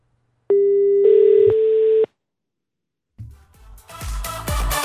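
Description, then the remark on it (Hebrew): A loud, steady telephone dial tone on a phone call holds one low-mid pitch for about a second and a half, then cuts off into silence as the call drops, then a dense, noisy burst of sound rises and continues. “נפל. טוב.”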